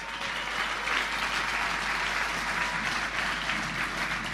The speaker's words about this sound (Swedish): En applåd tycker de kan få.